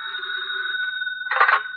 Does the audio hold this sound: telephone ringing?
yes